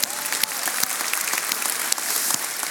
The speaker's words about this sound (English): Give her a round of applause right now.